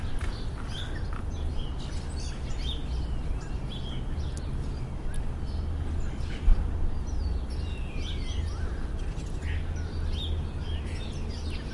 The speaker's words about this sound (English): Stand here and listen to the birds for a second.